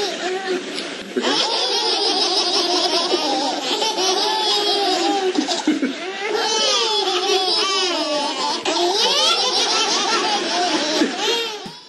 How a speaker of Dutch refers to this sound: Enkele jaren geleden deed dit filmpje de ronde op het internet. Een lachende babyvierling.